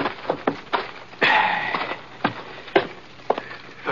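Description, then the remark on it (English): A horse named Scar walks up to the hitching rail in front of the sheriff's office in Quiet City and stops, its hooves clopping slowly and unevenly, a handful of sharp, hollow knocks spaced apart, with a short breathy, rustling burst partway through. No one speaks. “Anyhow, I headed Scar over to the hitching rail in front of the sheriff's office and pulled up.”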